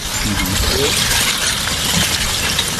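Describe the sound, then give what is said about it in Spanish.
A loud, continuous rush of crackling and clinking, like glass shattering over and over, as lava flows run toward the sea on the island of La Palma, with a faint voice murmuring underneath. “Esto es la lava corriendo. Parece que estén rompiendo cristales, ¿eh?”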